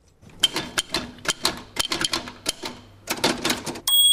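Rapid keystrokes clatter on a mechanical typewriter, an irregular burst of sharp metallic strikes, ending with a brief ringing carriage sound.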